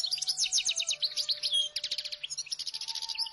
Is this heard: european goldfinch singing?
yes